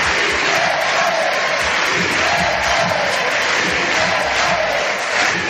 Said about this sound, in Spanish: Los diputados de Podemos y algunos más, después de que triunfase la moción de censura contra Rajoy, aplaudían de esta manera y coreaban el famoso lema «Sí se puede».